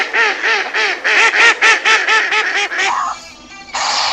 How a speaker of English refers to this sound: Quack, quack, quack.